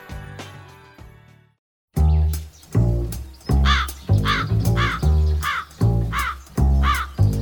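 bird, crow cawing

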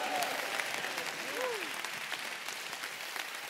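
crowd, audience clapping hands

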